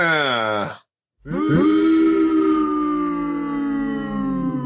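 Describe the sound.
A voice lets out a short, falling boo, pauses briefly, then holds a long, steady, low-pitched booooo that stays loud for several seconds, booing a wrestling match being discussed.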